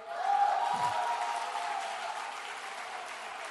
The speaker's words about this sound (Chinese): 来掌声鼓励。